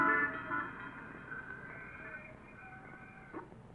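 A bus rumbles on a street while a steady, multi-toned horn blares at the start and gradually fades, with a short sharp knock near the end; no one speaks.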